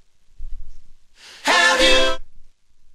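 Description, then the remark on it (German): A sharp, loud intake of breath by singers at the very start of a song, lasting about a second, with faint low thuds just before and under it and no talking. “Die atmen erstmal ein.”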